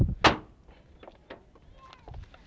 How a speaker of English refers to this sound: You go to Mummy while I close the other car door, look.